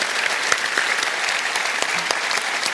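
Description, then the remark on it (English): Steady, dense applause from a large audience fills the reverberant McEwen Hall at an Avalon event, many hands clapping together in a continuous wash with scattered sharper claps standing out. “Ladies and gentlemen, before we thank Angela, please a round of applause to everyone here at the McEwen Hall and at Avalon who made tonight possible.”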